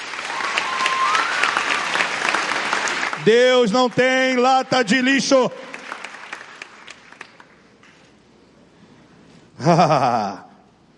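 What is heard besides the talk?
audience applause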